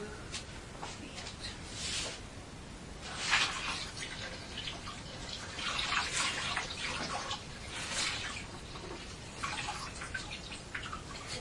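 Trousers being pressed through a damp towel: a hot iron hisses and sizzles in uneven bursts of steam, moderately loud, with a faint voice in the background.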